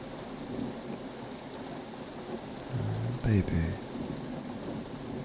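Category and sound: nature, heavy rain with thunder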